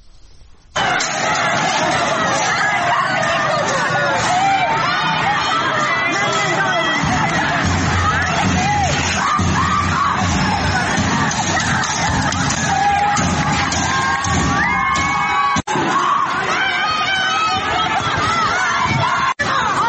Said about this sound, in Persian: صدای از اعتراضات امروز در اردبیل رو میشنیدی.